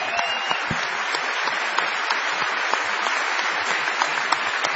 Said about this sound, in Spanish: Vamos a agradecer a todos la presencia aquí. Vamos a prolongar este aplauso que hemos recibido